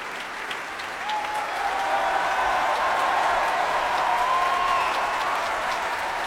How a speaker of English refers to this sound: That applause, those cheers for Madame Mao, soprano Kathleen Kim.